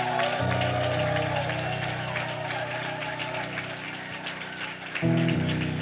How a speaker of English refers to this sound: Oh, clap for them. Your clap is very weak today.